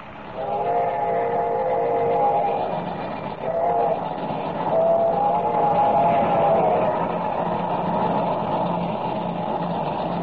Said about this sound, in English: All right, how are you enjoying your first ride in the cab of a locomotive?